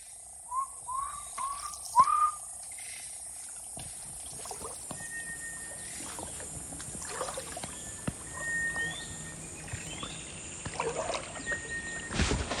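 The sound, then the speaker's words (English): A man paddling a wooden boat whistles a few short notes back and forth with thin bird calls over a steady outdoor background of water and rustling, with the whistles clustered near the start and sparser calls after. “He knows this place inside out, and he's full on whistling back and over with the birds.”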